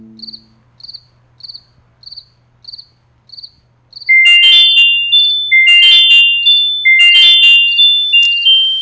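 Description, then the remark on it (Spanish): A cricket chirps in steady, evenly spaced pulses, then the chirping turns much louder and denser, with buzzy, ringing bursts repeating. No voices. “El grillo.”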